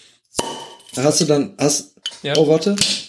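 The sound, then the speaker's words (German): Glasses clink together in a toast, one sharp ringing clink near the start and a second, quieter one near the end, with people talking in between. “Hast du dann, Prost, ne?”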